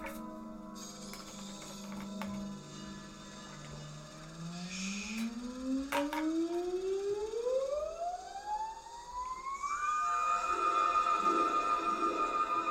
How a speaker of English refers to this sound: He's got some kind of siren. Well, I don't think it's that was just, a fisherman pole. Okay, I thought it was a siren because I heard like. Oh yeah, it's a fisherman pole.